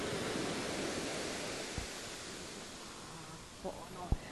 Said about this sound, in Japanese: もうこの感じ、 波の音がすごい綺麗に聞こえる。